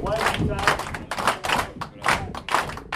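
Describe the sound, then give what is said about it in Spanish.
A group standing in a circle for warm-up exercises, told by an instructor to mark the rhythm with their feet and then accompany it with their hands, keeps a steady rhythm with repeated thumps and sharp claps, roughly two beats per second, lively, with some voices mixed underneath. “Les dice que con sus pies marquen el ritmo. Después les pide que se acompañen con las manos.”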